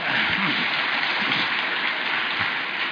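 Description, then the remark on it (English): A steady wash of audience applause, dense and continuous from start to finish, with many hands clapping together at a fairly loud, even level and no voices standing out. “Sorry, you were saying before they clapped and in enthusiasm for you?”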